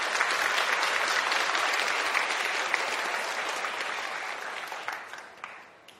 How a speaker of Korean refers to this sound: 우리 제임스한테 한 번 더 박수 보내드리겠습니다.